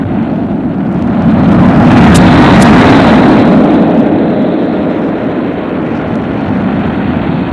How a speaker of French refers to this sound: Il souffle, se laisse soulever. Le vent est un tourbillon de poussière.